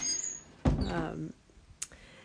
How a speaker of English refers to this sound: and it's very windy. And you can probably hear the door creaking. I shall close it in a minute. In fact, I shall close it right now. It's very irritating.